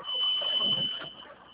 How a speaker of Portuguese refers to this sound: É o caminhão.